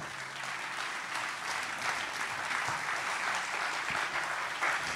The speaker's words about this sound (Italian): Buonasera, buonasera. Allora, il nostro solito rito, fatevi un applauso, grazie di essere qui.